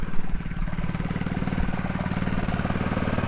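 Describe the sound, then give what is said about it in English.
A generator engine runs steadily, a dense low mechanical drone with rapid regular pulsing and a constant mid-range rumble, loud and unbroken throughout with no voices. “Oh, a generator.”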